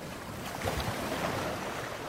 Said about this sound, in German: Er liegt auf seinem schmalen Podest im Baum und kann das Meer hören, die kommende Flut. Das Wasser schwappt rhythmisch an den Strand, der übersät ist mit Dingen aus einer anderen Zeit.